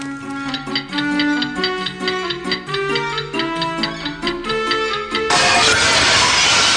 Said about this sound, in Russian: Что вы там делаете? Что вы там делаете, черт вас побери? Я уронил стекло.